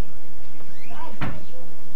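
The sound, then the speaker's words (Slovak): A cupboard door creaks briefly, then gives way with a single sharp crack and thud as it is wrenched off its hinges and left in a person's hand, followed by quiet rustling. “Však mi dvere ostali v ruke.”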